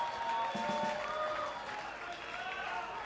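An audience applauds steadily for about three seconds, a dense wash of clapping with voices cheering and calling out over it, holding at a fairly even loudness throughout.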